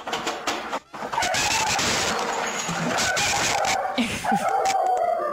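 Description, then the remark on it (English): Dogs bark and yelp excitedly in a loud, chaotic, nonstop burst as a Christmas tree falls down inside a house, with a dense jumble of noise and commotion throughout and no one talking. “This is last year when the tree fell down, and my dogs really loved it.”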